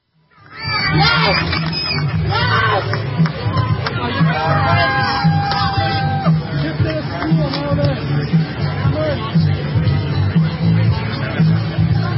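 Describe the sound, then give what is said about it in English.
A crowd cheers and shouts as a man is arrested by police, a loud, steady roar of overlapping voices that starts abruptly and keeps going without a break, full of chatter and raised calls. “Well, it's a protected group with the left cheering as he's arrested.”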